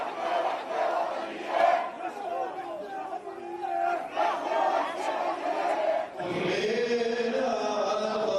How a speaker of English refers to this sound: There was also tension when Shireen's body arrived outside the church in the Christian quarter of the old city. Crowds filling the small streets of this ancient city.